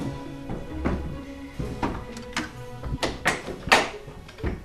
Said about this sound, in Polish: I trafiliśmy, na dzień dobry, do przedpokoju, można powiedzieć, współcześnie, a drzwi są otwierane u góry i na dole. Tak, są dzielone poziomo. Zwykle tego typu drzwi znajdujemy w budynkach gospodarczych, na przykład w oborach czy w stadninach koni.